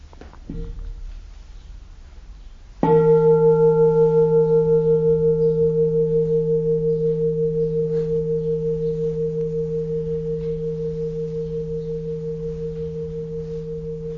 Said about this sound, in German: Hören wir mal gerade die Glocke.